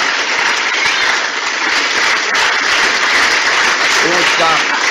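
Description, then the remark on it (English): A large crowd of diplomats and legislators roars and claps continuously for the president as he begins his speech, a dense wall of cheering and applause that stays loud throughout, with a few individual voices shouting out near the end. “The cheer is wild.”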